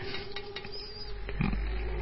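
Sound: pig grunting and oinking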